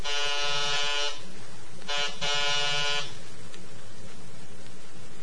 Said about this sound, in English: Now, third floor. And hurry before the others come out to see why their guests haven't arrived. Oh. 3B Simpson. Chalmers E. Simpson. Press the buzzer.